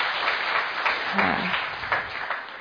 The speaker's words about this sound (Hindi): तो एक हाथ की बजाय दो हाथ की ताली बजा लो।